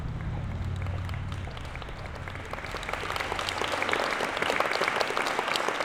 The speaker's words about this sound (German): Dann der erste Applaus.